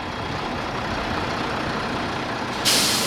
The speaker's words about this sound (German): Jetzt passiert gerade auf dem Hof etwas. Vor das Gutshaus rollt ein rot-weißer DDR-Reisebus, ein Icarus.